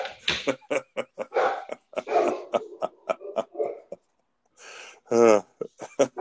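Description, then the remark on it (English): A dog barks in a rapid string of short, sharp yaps, pauses briefly, then lets out a longer, rougher bark or growl followed by a few more quick barks. “You're gonna have to lose the I dog.”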